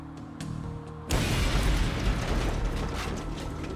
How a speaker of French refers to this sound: L'explosion fut dévastatrice.